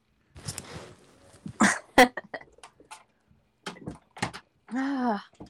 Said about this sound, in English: Sorry, I had to shut the door.